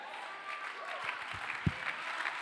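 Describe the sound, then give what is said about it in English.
An audience claps together in a steady, dense patter of many hands, with a few low thumps mixed in. The clapping holds at an even, moderate level throughout, with no clear speech. “I know it's hard to clap your hand when you're in the middle of it, but you can clap your hand when you know something.”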